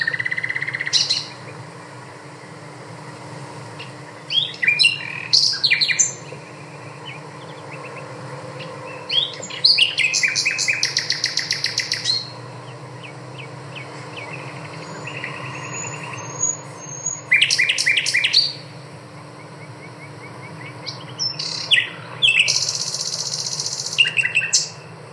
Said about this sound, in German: So. Ich habe gerade die Nachtigall abgespielt.